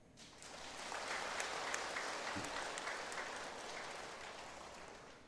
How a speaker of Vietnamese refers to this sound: Đón nhận được các tràng vỗ tay nồng nhiệt của quý vị